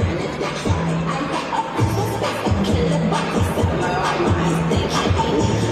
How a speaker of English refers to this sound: When the clock ticks, crowds are gathering, watching the annual ball drop fireworks countdown. New York Times Square to usher in 2024.